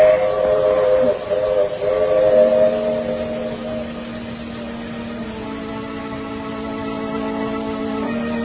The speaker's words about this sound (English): The train is coming into the station now, Doctor.